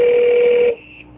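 A loud, steady electronic telephone tone from a regular phone being dialled sounds alone for under a second, then cuts off abruptly, leaving a faint, brief high beep trailing after it.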